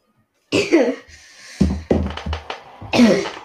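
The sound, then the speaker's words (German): A series of harsh coughs, starting with a strong bout, then several shorter hacking coughs in a quick uneven rhythm, ending with another loud burst. No talking. “Nicht wundern wegen dem Husten, der ist ab und zu.”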